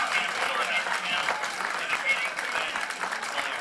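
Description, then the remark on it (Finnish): Mission control staff cheering and applauding as the signal from the Opportunity rover landing on Mars returns, some jumping on their desks; a dense, steady wash of clapping and excited shouts that stays loud and busy throughout, with no single voice standing out. “Hurjaa menoa lennonjohdossa. Kaikki hurraavat ja hyppivät taas pöydillään.”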